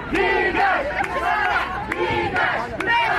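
A large protest crowd in Algiers or Bouira chants "Go away, Ben Salah!" in unison, loud rhythmic shouted phrases repeating about every half second to second, with overlapping voices and cheering throughout.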